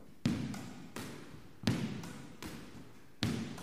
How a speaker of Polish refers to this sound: Stanę sobie teraz troszeczkę dalej od ściany frontowej i będę odbijał piłkę po stronie forehandowej.